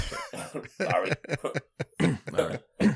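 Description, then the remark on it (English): Bursts of coughing mixed with throaty clearing, several rough hacks in quick succession spread over a few seconds, with short pauses between them. “Sorry, got a cough here, guys.”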